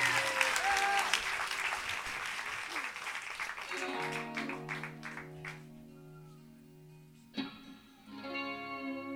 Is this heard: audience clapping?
yes